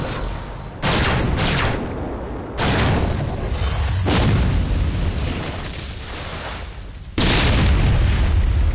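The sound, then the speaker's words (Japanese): A series of loud, roaring blasts of Fireball spells, each erupting suddenly with a broad rumbling whoosh that lingers and fades before the next burst hits; four explosive bursts in all, no talking. “ファイヤーボール。”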